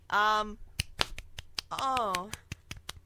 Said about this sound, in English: See, I was kind of hitting my fingers against my palm. That if you can hit the palm of your hand with your fingers, that's one hand clapping.